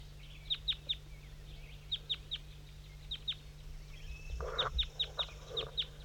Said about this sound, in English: Okay, there's the wild males, the wild birds, little guys I'm pointing to now.